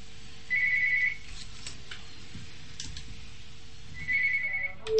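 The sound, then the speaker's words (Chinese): A telephone on a radio call-in line rings as a listener's call connects, in two short electronic trill bursts separated by a pause, fairly clear against a quiet, faintly humming background with no talking. “其他的听众继续可以打这个电话，8002932”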